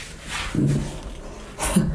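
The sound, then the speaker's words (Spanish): A dog named Salchi growls low in two short, rumbling bursts mixed with snorty breaths, with quieter background noise between them and no talking. “Nosotros diciendo que tú no ladras y estás gruñendo.”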